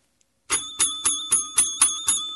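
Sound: ringing bell sound effect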